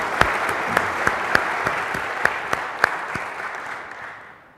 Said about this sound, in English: Please give him another round of applause here, Mark Yumera.